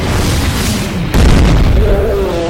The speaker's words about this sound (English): More meteors rained down from the sky, shaking the earth as they fell.